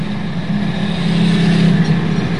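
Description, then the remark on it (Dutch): Steady low engine drone and road rumble fill the cabin of a moving car, a constant hum with a faint higher whine above it, holding even and fairly loud with no voices. “Maar ik hoop dat we de tijd een beetje in de gaten moeten houden en dit programma met de vreemde geluiden, dit programma uit deze rijdende personenauto, moeten gaan afronden.”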